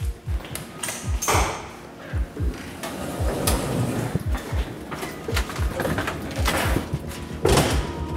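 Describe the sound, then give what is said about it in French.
A door opens with a series of clunks, rattles and sliding scrapes, followed by steady mechanical rumbling and knocks like an elevator in motion, going to the fifth floor, continuous throughout. “J'ouvre la porte et c'est au 5e, à gauche en sortant de l'ascenseur.”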